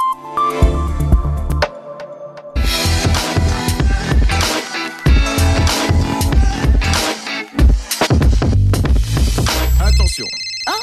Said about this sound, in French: Mais encore un coup de téléphone des années 90.